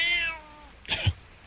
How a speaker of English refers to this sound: Here, kitty, kitty, kitty, kitty.